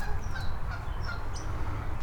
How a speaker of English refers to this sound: Jeez, I can hear a bunch of geese going crazy.